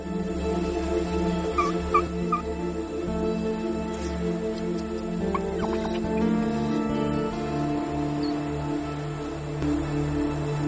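Turkeys gobble and chatter together in a steady, busy chorus, with a few sharper calls rising above the dense flock noise throughout. No one speaks.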